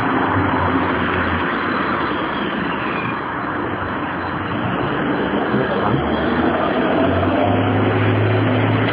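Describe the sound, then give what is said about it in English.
A steady, loud roar of road traffic at a busy junction on the road up to the Pleasance during fringe time, with a low engine hum underneath, continuous for the whole stretch, without distinct individual vehicles standing out and no one speaking. “Someone tries to turn the wrong way, turn into traffic.”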